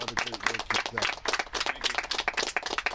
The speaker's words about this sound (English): And I just want to personally give you a round of applause as well.